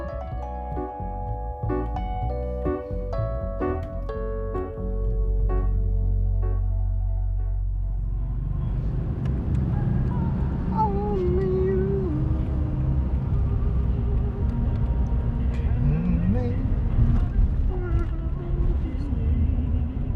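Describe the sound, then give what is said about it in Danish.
Steady low road rumble from inside a moving car, with a love song playing on the car radio at first and a voice heard over the continuous drone later on. “I bilen sidder min sidemand”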